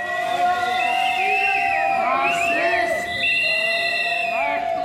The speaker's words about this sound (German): Rund 250 Demonstranten haben sich gegen 8 Uhr morgens vor dem Landtag versammelt. Politikerinnen und Politiker bahnen sich ihren Weg an der Demonstration vorbei. Einige werden von der Menge ausgebuht.